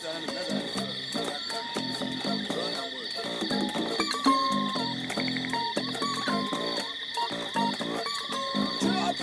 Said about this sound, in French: Au milieu des grenouilles et de quelques autres animaux sauvages non identifiés,